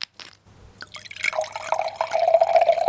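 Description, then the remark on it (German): Wine pours steadily into a bottle as a 32-year-old winemaker fills his wines bottle by bottle in a small bottling plant in Rhineland-Palatinate, Germany, the gurgling pitch climbing as it fills, after a few short clicks and drips; fairly loud, with a low mechanical hum underneath and no talking. “Dann füllt der 32-jährige Winzer seine edlen Tropfen selbst in einer kleinen Abfüllanlage Flasche für Flasche ab, die er sogar bis nach Japan, USA und Australien liefert.”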